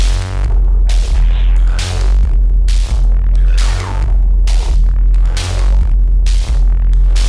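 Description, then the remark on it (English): A loud electronic music track driven by a heavy, throbbing bass that pulses steadily, with bright bursts of high-end noise hitting on a regular beat. No voices. “And right now, oh, I have to turn the bass down on this, it's so heavy.”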